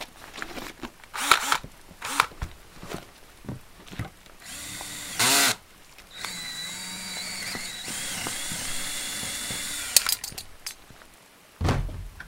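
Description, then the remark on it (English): A power drill whines steadily for several seconds as it bores into the metal door lock of a house, preceded by scattered clunks and knocks, with a short bright burst just before and a final thunk after the drilling stops. “Give me a sec. I still need to drill the lock.”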